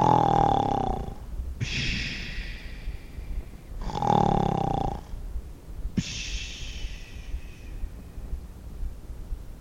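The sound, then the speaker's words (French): Loud, grunting snoring: two slow cycles, each a rough, throaty snort on the inhale followed by a long, airy hiss on the exhale, with no talking; Madame Vox Populi snoring in grunting bliss under her roof. “Jamais elle ne pensait qu'elle aurait pu tout aussi bien être sous le toit où Madame Vox Populi ronflait dans une grognante béatitude.”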